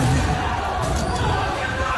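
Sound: crowd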